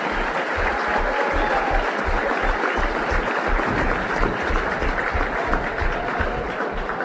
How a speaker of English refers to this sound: Please join us in one final resounding round of applause for our 2023.